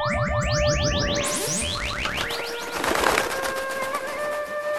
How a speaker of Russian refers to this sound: Обернулся птицей и улетел.